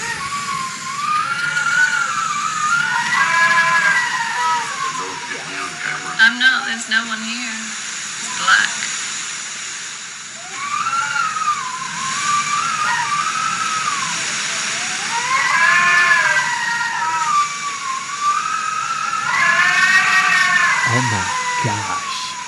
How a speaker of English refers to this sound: But before it got real bad, I recorded some of the wind. I don't even know if you hear it over here, but...